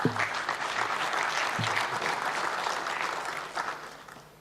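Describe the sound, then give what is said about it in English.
An audience claps steadily to welcome a speaker to a talk, a dense wash of many hands sustained for several seconds before starting to taper off, with a few faint voices underneath. “Please clap to welcome”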